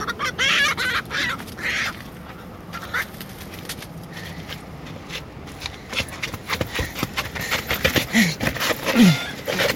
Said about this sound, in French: La poule?